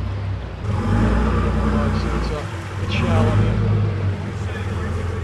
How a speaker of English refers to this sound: As the boat moves away from the dock,